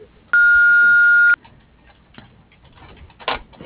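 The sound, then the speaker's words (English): An answering machine gives a single loud, steady electronic beep after its greeting, holding one pure tone for about a second, then cuts off into faint line noise and soft background rustling. “To leave a voice message, please speak after the beep.”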